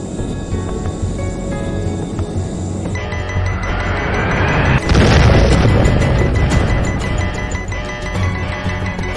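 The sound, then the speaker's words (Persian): A low, steady roar builds for several seconds before a sudden loud explosion bursts in about halfway through as a missile fired by the warship USS Vincennes strikes an Iranian passenger airliner, followed by a sustained rumbling, crackling wash that slowly fades. No one speaks. “شلیک ناو وینسنس به هواپیمای مسافربری ایران یک فاجعه بشری بود.”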